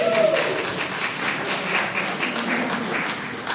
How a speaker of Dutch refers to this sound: Mooi, hè? Ze zijn ervoor gegaan. Een dik applaus.